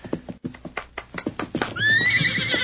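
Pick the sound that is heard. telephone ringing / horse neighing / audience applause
horse neighing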